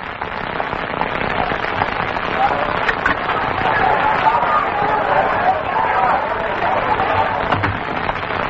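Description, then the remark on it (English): An angry lynch mob roars in a dense, continuous wash of many shouting voices, with rumbling and crackling texture underneath, holding a steady loudness from start to finish with no clear individual words. “Sounds like a crowd.”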